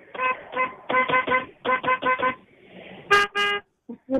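A series of car horn honks in rapid bursts, several short toots in rhythmic groups followed by two longer, brighter blasts, loud with traffic faintly behind.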